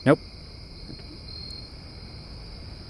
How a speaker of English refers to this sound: Nope. Jumping bush cricket? Very good.